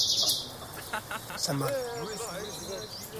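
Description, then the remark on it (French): A female bird twitters: a quick burst of high, scratchy chirps, then a run of thin, wavering warbled notes that rise and fall over a faint background hiss. “Généralement, la femelle, le gazouillement d'une femelle, c'est pas tellement terrible.”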